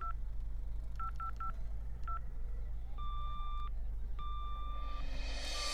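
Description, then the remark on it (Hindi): A quick series of short telephone keypad beeps, about five dual-tone presses in a row, as someone dials to try a phone call, followed by longer steady ringback tones over a low background hum. “अच्छा, तो फिर मैं एक बार ट्राई करता हूँ और आपको वापस कॉल करता हूँ।”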